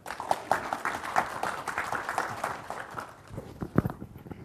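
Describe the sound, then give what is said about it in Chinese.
An audience at a talk applauds to welcome a lecturer presenting on Windows 10 IoT and maker applications, with dense, steady clapping that holds for about three seconds, then thins into a few scattered claps before dying away. “为我们演说 Windows 10 IoT 物联网及创客的应用，我们掌声欢迎。”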